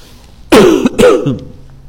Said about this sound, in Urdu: کھانستے ہوئے کووڈ سے ڈر لگتا ہے.